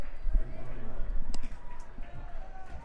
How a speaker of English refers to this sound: Getting very excited here at McCoy. You can hear the crowd getting a little bit into it.